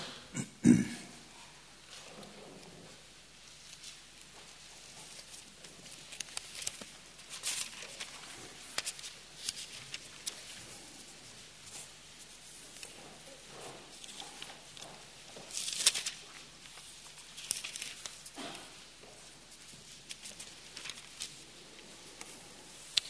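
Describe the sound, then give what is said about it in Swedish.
Soft, scattered rustling of many Bible pages being leafed through to the New Testament, Second Thessalonians chapter 2, with irregular papery flutters and brief louder swishes, fairly faint and with no one talking. “Och vi ska bläddra till andra Thessalonikerbrevet, kapitel 2.”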